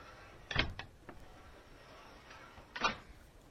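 A train compartment's sliding door rattles and clunks as it is pushed open, with a few quick knocks early on and another heavier clatter a couple of seconds later, with no voices.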